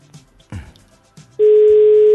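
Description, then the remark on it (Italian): A few soft bumps and handling thuds, then a loud, steady telephone ringback tone on an outgoing call for a surprise birthday greeting starts partway through and drones on unbroken to the end, clear with no talking. “Per squillare, squilla.”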